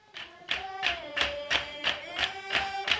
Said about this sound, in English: When Tibetans restore historic buildings, the workers sing and bang and tap in time.